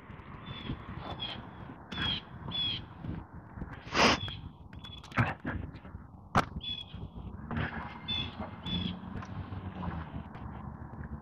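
A blue jay squawks repeatedly outdoors, harsh raspy calls coming in uneven bursts, a few louder and sharper than the rest, over a steady background of ambient noise.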